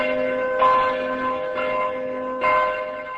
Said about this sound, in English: The Benedict Bell, a gift by the city of Traunstein, pealed before the start of the Mass.